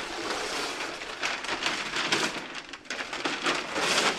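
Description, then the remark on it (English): Paper covering is torn down from a store window while the space is cleaned up to make way for a fabric art display: a sustained, bright crackling rip that surges in several bursts over about four seconds, with no voices. “Jeff Willoughby tears down the paper covering this store window.”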